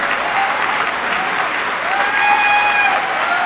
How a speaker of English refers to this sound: Thanks for the warm welcome. I needed that uplifting applause because I just finished eating lunch at Sam's.